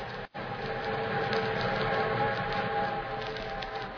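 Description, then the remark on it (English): An eastbound train roars steadily along the tracks in a loud, continuous rumble, with a faint whistle-like tone running through it after a brief gap at the very start. No voices are heard. “Meanwhile, the eastbound train thundered on.”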